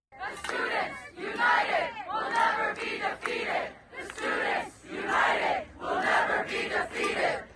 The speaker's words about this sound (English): The crowd is shouting, "The Students United will never be defeated." Daily Signal columnist Jarrett Stepman attended a pro-Palestinian protest near New York University today at Washington Square Park and heard this chant.